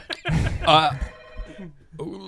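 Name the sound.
telephone bell ringing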